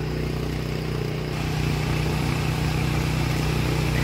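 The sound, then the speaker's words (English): A car engine fitted to a Tesla runs steadily while charging the car, a loud, continuous low rumble with a droning hum that holds constant throughout, with no voices. “This engine's still running and it's charging,”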